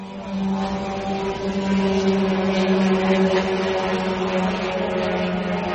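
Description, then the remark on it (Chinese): A slow kamikaze drone with a wingspan of just over 2 m, weighing 200 kg, buzzes loudly from its four-cylinder two-stroke engine copied from a German engine: a steady low droning whine rich in harmonics that swells slightly after the first half second and holds for several seconds. “那给人感觉啊，就像一个除草机从天空中飞过来，而且它的速度也特别慢啊，据说是每小时只能飞180公里。”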